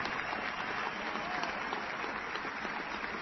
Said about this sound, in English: Let's just give a round of applause for the staff for putting this together, because they have done a marvelous job.